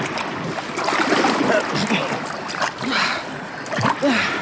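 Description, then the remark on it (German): Loud, continuous rushing water of a current flowing between roots out of an underground labyrinth, with repeated splashes and churning, turbulent surges, with a few brief voice-like sounds mixed in. “Die Strömung muss uns zwischen den Wurzeln hindurch aus dem unterirdischen Labyrinth ins Freie spülen.”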